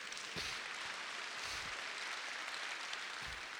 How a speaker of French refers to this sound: On peut applaudir le Seigneur.